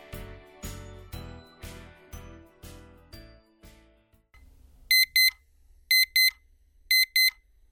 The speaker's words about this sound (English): The shrill pierce of the alarm clock insisted its way into Maddie Zarden's dream at a most inappropriate moment.